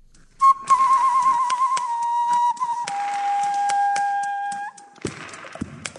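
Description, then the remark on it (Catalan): A flute-like wind instrument made from a fresh carrot, carved and with several holes cut into it, plays one steady, breathy whistling note for about four seconds, stepping slightly lower partway through, with faint clicks and taps around it before it stops. “Així, una pastanaga hàbilment manipulada, ben talladeta i obrint-li uns quants forats, es converteix en un instrument de vent semblant a la flauta amb aquest timbre de so.”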